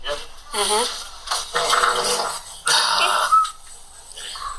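A few short, sputtering flatulence bursts from a played recording of a half-sedated patient during a colonoscopy, squeaky and buzzy, arriving in uneven spurts over about seven seconds with brief pauses between them.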